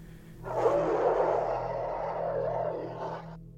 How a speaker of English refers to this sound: Until out in the distance, I hear a muffled roar.